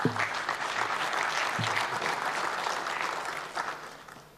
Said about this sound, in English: Please clap to welcome